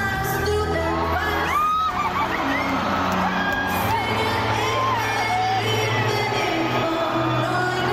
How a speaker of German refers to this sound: Ihr hört schon die Fans, sie rasten aus